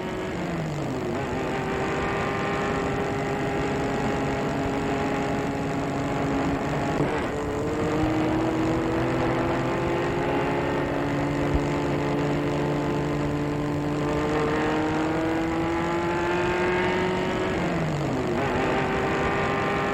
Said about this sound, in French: Il retourne vers la voiture. Il fait asseoir dans le siège arrière. Et la voiture part.